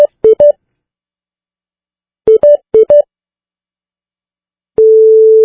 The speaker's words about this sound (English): What you'll hear is you'll hear the special tone, and then you'll hear the European ring, which is different than our ring. But let's take a listen to what it could sound like if you call a cell phone overseas.